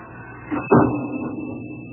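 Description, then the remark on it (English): A door swings shut with a single solid thump as a visitor leaves, preceded by a soft creak or rattle of handling, then a faint hiss of background noise lingers with no one talking. “Yeah, I hear the door.”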